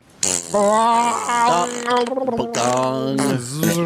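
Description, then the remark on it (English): A voice imitates a gong layered over a rasping fart-like buzz, holding two loud, wavering, humming tones with a brief break between them. “Can you do a gong over a fart? Go.”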